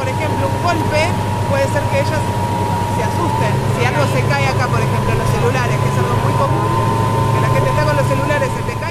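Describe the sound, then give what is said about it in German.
A small outboard motor of a tourist whale-watching boat drones steadily and fairly loudly throughout, a constant low engine hum, with voices chattering faintly in the background. “Man hört zum Beispiel auch den Motor. Der klingt jetzt auch relativ laut erstmal, so übers Mikro.”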